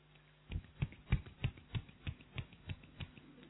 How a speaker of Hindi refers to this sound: एक हाथ की ताली, ये स्ट्रेट रहना चाहिए, केवल ये इसके ऊपर लगेगा और ये पूरा हिले।